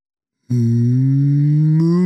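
A single loud cow moo starts after a short silence and holds as a steady low drone, rising slightly in pitch and swelling near the end.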